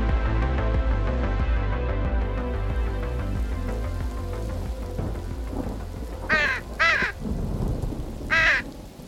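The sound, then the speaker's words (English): A crow inside an apartment, which flew in through an open bathroom window, caws three times, loud: two quick harsh calls, a short pause, then one more. A steady low rumble, like thunder or rain, fills the background. “Before we get all judgy, yes, I have a crow inside my apartment.”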